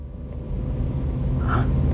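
The engine of a newly bought car runs steadily, a low droning rumble with a throaty hum that holds at an even, fairly loud level throughout, with no voices.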